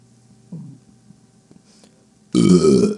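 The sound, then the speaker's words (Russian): A soft throaty croak comes first, then a deliberate, loud, surging burp erupts and rolls on for most of a second before cutting off. “Сейчас вашему вниманию я предоставляю отрыжки. Вот нахлёстывающая.”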